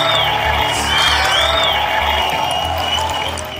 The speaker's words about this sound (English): We had to edit this down because the applause just went on and on and on forever. That was over 10 years ago.